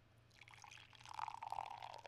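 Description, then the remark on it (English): Persephone Brewing Peach Hefeweizen pours from a can into a glass with a steady, gurgling splash that grows louder and rushes as the glass fills, over a faint low hum. “Here's the pour.”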